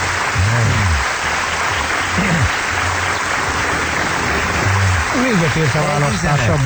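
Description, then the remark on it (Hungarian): A crowd applauds steadily for several seconds, a dense, continuous clatter of clapping with a few voices briefly audible over it. “Nagyon szeretem a tapsol az én népem. Csak tapsoljon.”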